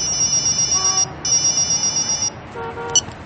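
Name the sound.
mobile phone ringtone ringing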